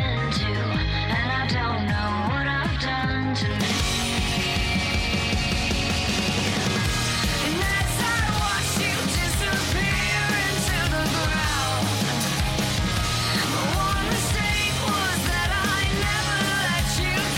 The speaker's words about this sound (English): That's off the new album